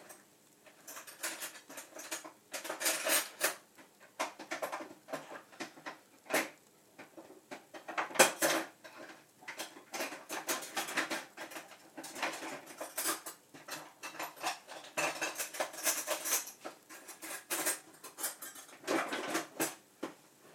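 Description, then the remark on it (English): Metal kitchen utensils clatter and clink repeatedly as someone rummages for metal tongs to get sausages out, a steady run of quick, bright scrapes and taps with no talking. “Now, I'm going to get the tongs so I can get the sausages out.”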